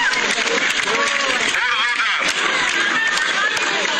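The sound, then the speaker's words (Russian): Sustained applause from a large crowd on Theatre Square as the election winner, Alan Eduardovich, takes the stage in South Ossetia: a dense, steady clatter of clapping mixed with cheering voices and general hubbub, loud throughout the few seconds without pause. “Под аплодисменты вышел на сцену театральной площади уже сам победитель.”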